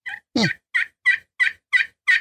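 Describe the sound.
A series of about seven clear young turkey hen mating yelps made on a turkey call with a striker, evenly paced with one fuller, lower-edged note near the start, with no one talking.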